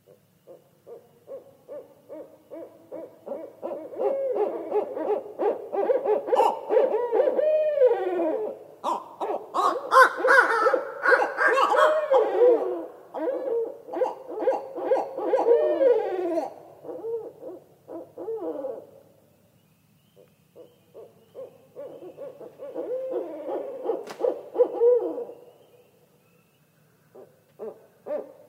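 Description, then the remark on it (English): Fairly loud calls of an irruptive northern owl in Minnesota in a long, dense run of hooting and wavering notes, then a pause and a shorter final bout. No one speaks. “they're erupting into Minnesota because there's shortages of food in other northern regions of their breeding range.”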